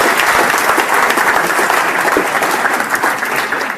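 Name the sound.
audience applause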